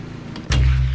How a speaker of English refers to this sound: Next morning, Jim covers his head with a pillow to cut out the noise of the mower.